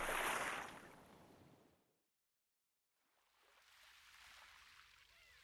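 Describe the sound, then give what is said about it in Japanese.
Ocean waves wash onto a sandy beach in broad hissing surges: a loud wave fades away, a moment of quiet follows, then a softer wave rolls back in. “波の音が BGM みたいだし、リラックスできるな。”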